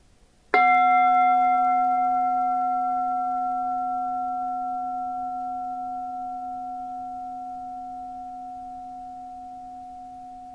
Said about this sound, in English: Listen. Listen to the sound of the bell and bring yourself back to the present moment.